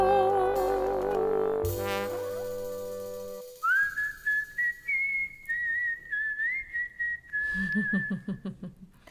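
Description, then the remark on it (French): Someone whistles the folk tune 'Au clair de la lune', clear notes rising and stepping along in an even, articulated rhythm, following a brief swell of sustained musical tones; no one speaks. “Le vieux poirier sans rancune siffla au clair de la lune pour calmer le petit oiseau.”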